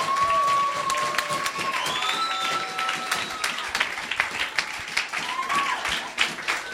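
An audience applauds a pastor steadily, a dense crackle of many hands clapping at once, with a few high whistles and cheers rising above it, the clapping thinning into scattered claps toward the end.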